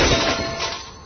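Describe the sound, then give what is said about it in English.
A loud crash of a brand new outdoor grill, hurled off a 20-story building, hitting the ground: a dense burst of clattering and breaking debris that fades slightly over about a second, with no voices. “This is the sound of a brand new outdoor grill being hurled off a 20-story building.”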